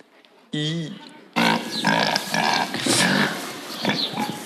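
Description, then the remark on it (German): Pigs grunting and oinking on a farm: a short squealing oink, a brief pause, then a loud, continuous jumble of overlapping grunts and squeals. “Und ich sag mal so, Teller waschen wäre schön gewesen, es waren aber Schweine.”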